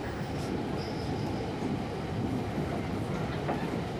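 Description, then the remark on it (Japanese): Steady rumble of a train rolling along the rails, heard from inside the carriage, with a continuous low roar, faint wheel rattle and a brief thin squeal near the start. “電車の中での通話はご遠慮くださいなんて。”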